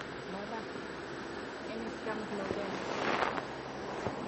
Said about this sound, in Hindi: पंखा या तो बंद कर दो आवाज नहीं सुनाई पड़ रही है।